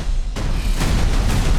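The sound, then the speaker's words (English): Loud, rumbling explosions with deep booming bass and several sharp bursts about half a second apart, dense and cinematic with no speech, from a movie trailer starring Kevin Hart, Cate Blanchett, Jack Black and Jamie Lee Curtis. “What did I tell you? Minimal no explosions. I said no explosions.”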